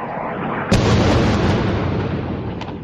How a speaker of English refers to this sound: The buzz of the unmanned aircraft's engine, it sounds a little like a home lawnmower as taken flight, is a common sound in the sky over Gaza, as is the occasional whoosh and thud of its deadly missiles.